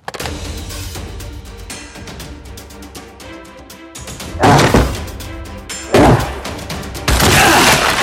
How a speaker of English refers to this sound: You don't have to batter down every single door. You're not the Incredible Hulk.